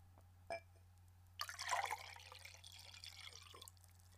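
A brief clink, then lemon and lime infused water with ice pours into a glass for about two seconds, a bright splashing stream that tapers off. No one speaks, and a low steady hum runs underneath.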